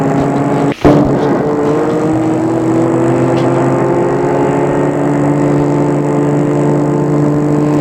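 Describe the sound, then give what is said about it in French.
A car engine runs steadily and loudly throughout as the car drives back to Paris, with a low droning hum and a brief sharp click or bump near the start. “Et la voiture retourne à Paris.”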